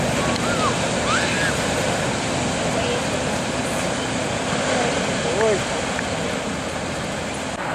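A constant, loud wash of surf on a shore of cold water rolls on without pause, filling the scene with broad roaring noise, while faint voices or cries drift in over it now and then.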